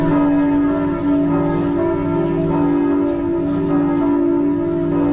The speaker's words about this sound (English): When I used to live in Germany, the sound of church bells in a little village just does something to me. I don't know why.